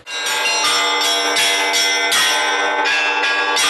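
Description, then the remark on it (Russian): Church bells ring out loudly from a bell tower, several bells struck in quick, overlapping succession so their bright, ringing tones blend into a continuous, resonant peal with no voices. “Отец Владимир благословил в воскресной школе преподавать в качестве одного из уроков воскресной школы практику колокольного звона.”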